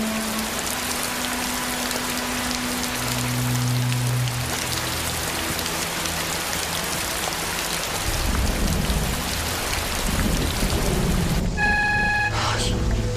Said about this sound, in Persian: ولی الان بیرون در ایستاده زیر بارانه.